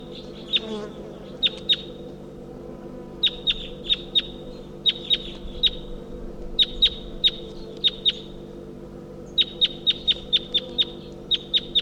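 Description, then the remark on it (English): Wild bird calls: sharp, high-pitched chirps delivered in quick clusters of two to five notes, repeating throughout over a steady low droning hum, with no one speaking. “So recording calls of that wild bird.”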